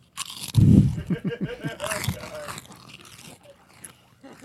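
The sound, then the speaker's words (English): Loud, close-up crunching and chewing right at the microphone, a burst of crisp bites followed by softer irregular munching, with faint voices murmuring underneath. “I know that's going to be funnier at home because we're crunching in the into microphones.”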